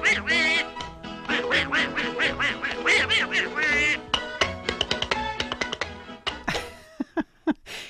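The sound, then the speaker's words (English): Donald Duck quacks in a rapid, nasal string of squawky bursts over lively music, a voice imitating a duck, ending with a few separate, punchy quacks, from a 1930s Mexican Donald Duck cartoon. “There is one exhibition I want you to talk about in detail, and this is about Disney and Latin America, including a Mexican Donald Duck cartoon from the 1930s.”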